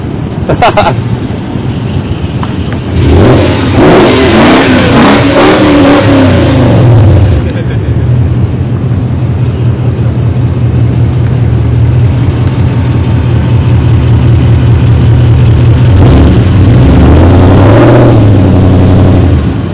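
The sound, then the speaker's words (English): A loud car engine rumbles, revving hard in a few surging bursts before settling into a steady, throaty idle, with muffled voices faintly underneath. “and listen to that engine.”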